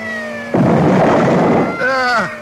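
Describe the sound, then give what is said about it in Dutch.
A car's steady engine whine at full throttle gives way to a sudden loud, crunching crash lasting about a second as the car drives through a closing gate at an airfield entrance, followed by a brief falling metallic groan as the impact dies off. “Nee, niet remmen. Niet remmen. Vol gas. Het enige is er dwars doorheen.”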